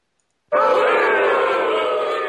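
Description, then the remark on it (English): A crowd booing loudly, kicking in abruptly after a brief silence and holding as one steady, sustained jeer of many low voices until the end. “Insert booing sound effect here.”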